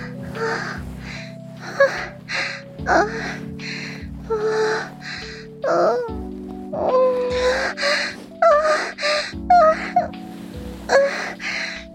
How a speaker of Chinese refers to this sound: 连你喘息的声音也跟着大了起来。